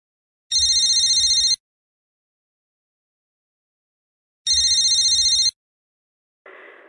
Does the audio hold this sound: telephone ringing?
yes